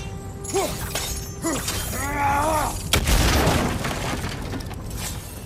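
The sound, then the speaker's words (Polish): Fuel-smelling barrels, set off by a spark from blades, explode partway through in a sudden loud blast that spills into a crackling, rumbling tail fading over a couple of seconds. Warbling, voice-like tones come before it. “Te beczki pachną paliwem. Iskra z twoich ostrzy spowoduje nie lada eksplozję.”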